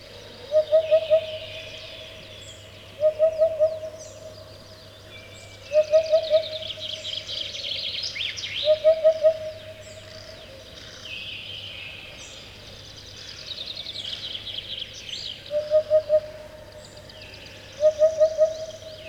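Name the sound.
eurasian hoopoe call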